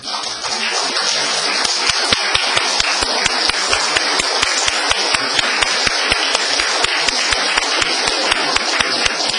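A crowd applauds steadily for several seconds on Mother's Day, clapping for the mothers, who stand. It is a dense wash of many hands clapping, with a regular run of sharper individual claps standing out above the steady roar.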